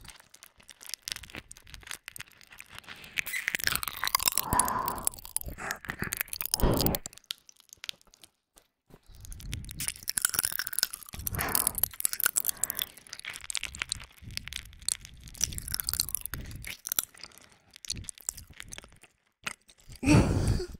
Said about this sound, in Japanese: だからチューじゃないってば。 キャンディー舐めてる音なの。